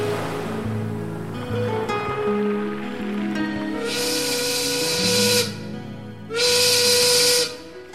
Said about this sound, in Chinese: 第二天一早，他被一艘船的汽笛声吵醒，有人来救他了。